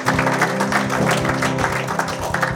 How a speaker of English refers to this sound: Give the Lord a hand clap of praise tonight. Yes, Lord.